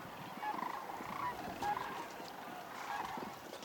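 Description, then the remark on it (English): Sandhill cranes bugle in rolling, trumpeting calls that overlap steadily for the whole stretch, a loud chorus of several birds with no talking; the calls are amplified by a long passageway for the sound, like a French horn. “with a long passageway for the sound that it kind of amplifies it, and it comes out very loud.”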